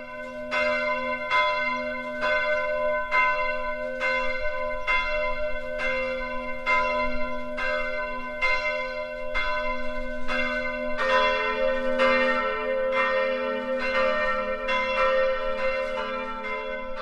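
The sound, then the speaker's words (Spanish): Church bells ring in a steady, rapid peal, strike after strike with rich overlapping tones and a sustained hum beneath. Partway through, a brighter-pitched bell joins the rhythm. No voices. “Incluso una campana hecha a pedazos se puede reparar, devolviéndole su sonido original.”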